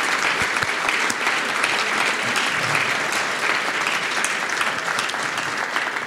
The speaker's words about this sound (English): You all deserve a rousing round of applause. Congratulations.